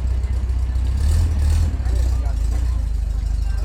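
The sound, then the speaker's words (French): A vintage car engine runs steadily at a classic vehicle gathering, its loud low rumble swelling briefly before settling back into an even idle, with indistinct voices faintly in the background. “Les moteurs ne sont pas là que pour faire du bruit, ils racontent des histoires, des heures de travail, de restauration, de passion.”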